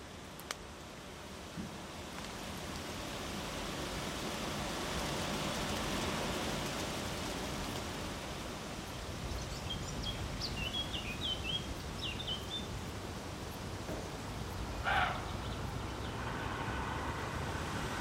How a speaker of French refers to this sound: Qu'on entend là? Bah, c'est des chenilles qu'on entend là. Donc, à mon avis, c'est les grottes pelleteuses à chenilles. Donc, ils sont en train d'évacuer ce qu'ils ont retiré du lit à la vase.